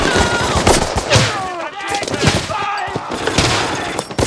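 Rapid bursts of gunfire crackle throughout a firefight, sharp repeated shots overlapping in a dense, chaotic volley, loud, with shouted voices urging others to shoot mixed in under the shooting.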